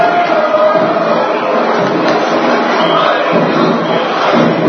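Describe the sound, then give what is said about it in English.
A steady, loud roar of a good crowd at a Northview basketball game supporting the Chiefs, a dense wash of many voices murmuring and shouting at once, with a few sharp thuds and bursts of cheering rising from the din. “Another good crowd on hand tonight here.”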